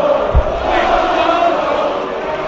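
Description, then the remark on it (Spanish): A stadium crowd at a football match shouts "tonto" together at Fuenlabrada player Iván Salvador. It is a loud, steady mass of voices with a rhythmic chanting quality and a low thump near the start, with no single voice standing out. “¿Qué gritan? Tonto.”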